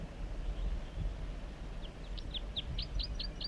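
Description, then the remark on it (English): A wild bird sings a quick series of about eight high, bright chirps that get steadily louder, over a steady low rumble of wind or water. “Wild bird songs, joined by 4-3.”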